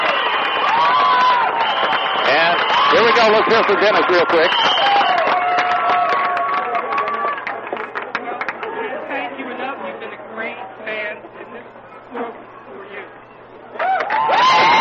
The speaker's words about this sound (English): There it is, the cheer once again.